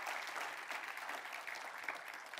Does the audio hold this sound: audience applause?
yes